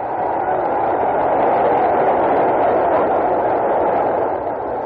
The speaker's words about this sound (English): Well, listen to the crowd for a second.